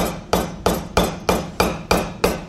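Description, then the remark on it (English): A hammer strikes a coconut again and again to split it in half, about eight sharp, loud blows in a steady rapid rhythm, each with a short hollow ring. There is no talking. “By the way, I cannot believe you guys let her hammer that coconut.”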